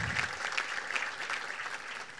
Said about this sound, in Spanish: Así un aplauso para la intendenta de Quindú.